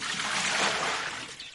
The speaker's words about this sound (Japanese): 肩にかかる黒髪をそっと払って、マヨはもう一度井戸の中につるべを落とし、水を汲み上げる。手桶に開ける時の水音が彼女は大好きだ。